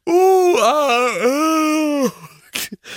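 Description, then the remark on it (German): A person imitates a wolf howl: one loud, sustained vocal wail lasting about two seconds, wavering in pitch with a dip midway, then a couple of short breathy sounds afterward. “Kann man eigentlich auch so ein Wolfsheulen oder sowas machen.”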